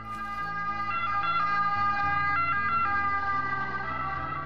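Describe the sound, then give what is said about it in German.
An Italian ambulance siren blares loudly in Italy, alternating steadily between two tones over a deep rumble of engine and traffic noise, with no one speaking. “Und in Italien machen die Autofahrer Platz, wenn sie das hier hören.”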